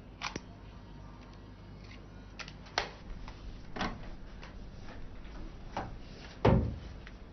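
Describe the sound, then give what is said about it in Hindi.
Plastic mechanical clicks and clacks of cassette tapes being pulled from a player, five or six sharp snaps spaced a second or so apart, the last one loudest, with no talking. “कुछ नहीं, बस उसके अंदर से कैसेट निकाल रहा हूँ, अगर उसमें पड़ी रहेगी तो खराब हो जाएगी।”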